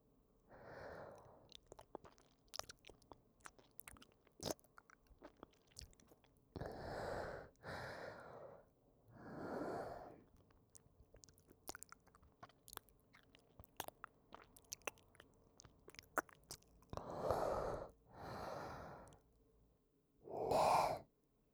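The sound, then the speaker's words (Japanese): Wet, squelching mouth sounds: scattered sharp smacks and clicks at an uneven pace, broken by several soft, breathy puffs of breath, with no talking. “それともこの口の中のくちゃくちゃした水音が気持ちいいの？”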